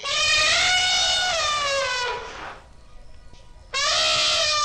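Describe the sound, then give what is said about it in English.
A loud, brassy elephant trumpet blares for over two seconds, its pitch wavering slightly before fading, then a second harsh trumpet blast bursts in after a short quiet gap. “The trumpeting sound of an elephant.”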